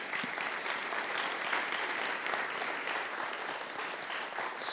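Steady applause from an audience at Emory Baptist Church during a morning service, welcoming a new church member, a dense wash of many hands clapping at an even level for about five seconds with no voices standing out.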